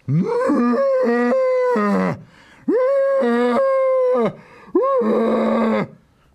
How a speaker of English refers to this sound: Her poker landed on something heavy, thick, and solid. It was the elephant's trunk. For its part, the elephant let out three tremendous bellows.